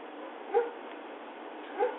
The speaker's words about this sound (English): Something is making my puppies bark.